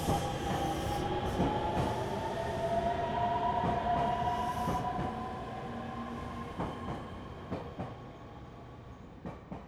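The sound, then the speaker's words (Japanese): Steady rumble inside a moving, packed commuter train, with a droning hum and faint whining tones, broken by periodic clacks of wheels passing rail joints; no one speaks. “ほんま、この時間の電車は混み込みやな。ぎゅうぎゅうのすし詰めでかなわんわ。”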